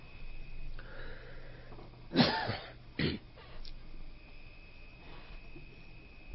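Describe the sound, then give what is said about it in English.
A faint, steady chorus of crickets hums through quiet outdoor ambience, broken midway by two abrupt throat-clearing or coughing sounds. “Now, you pretty much just hear crickets and stuff and just environment, yeah.”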